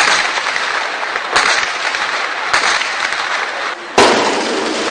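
Sustained medium-weapons gunfire as the Lebanese Army returns fire at sources of fire on the Bab al-Tabbaneh, Shaarani and Baqqar fronts, in a dense, crackling barrage, with several sharper, louder bursts breaking through the continuous rattle. No voices are heard.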